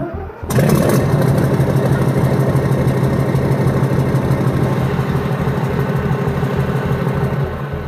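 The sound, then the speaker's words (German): The diesel engine of an Ulan infantry fighting vehicle (about 721 hp, 29 to 30 tonnes combat weight) is started: it cranks and catches about half a second in, then settles into a loud, steady rumbling idle with a regular low throb, with no talking. “Also dies war der Schützenpanzer Ulan mit einem geringeren und kleineren Motor gegenüber von Leopard mit ca. 721 PS und einem Kampfgewicht von 29 bis 30 Tonnen.”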